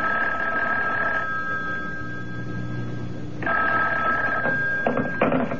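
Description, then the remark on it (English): A telephone in a hotel room rings twice with a steady, high electronic trill, each ring lasting over a second with a pause between them, clear over a low background hum and no talking. “I told you not to call me direct.”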